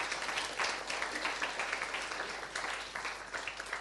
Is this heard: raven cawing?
no